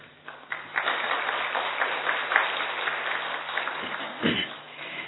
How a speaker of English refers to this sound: Can we have an applause for him, please?